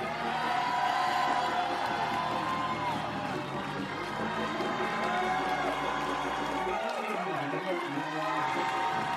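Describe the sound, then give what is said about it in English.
A large audience shouts and cheers as the preacher urges them to keep shouting, in a dense, sustained roar of many voices, with scattered whoops rising above the continuous crowd noise for the whole stretch. “I said, keep shouting.”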